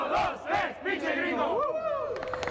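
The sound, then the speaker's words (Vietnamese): A group of voices shouts a slogan together in a loud, energetic burst, several rhythmic syllables rising into a rousing cheer, with overlapping voices throughout. A restaurant's owner and staff put their hands together and chant "1, 2, 3, Pinche Gringo" at the end of a staff meeting before opening. “Cuộc họp kết thúc với cả chủ và nhân viên chụm tay lại trong khi hô vang khẩu hiệu 1, 2, 3, Pinche Gringo đầy khí thế.”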